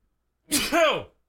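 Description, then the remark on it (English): One sharp sneeze: a sudden hissing burst that trails into a short voiced "choo," lasting well under a second, with silence on either side. “But, hang on, I got to sneeze.”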